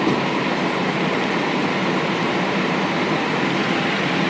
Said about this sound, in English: Today I make day 38 of my trip, Wednesday the 20th of February 2013, and now we are in the tunnel section, or what I've called the fun size subway section of the Munai.